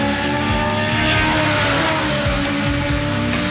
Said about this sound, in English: It's great to see Cheeky out there tearing it up in the new Legend car.